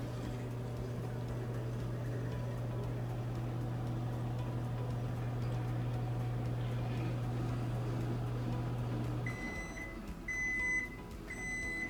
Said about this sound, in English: So we're gonna wait for it to cool for 2 minutes after it's done in the microwave, and there's 10 seconds left.